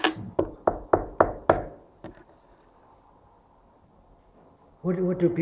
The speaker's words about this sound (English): So he's standing at the door and knocking.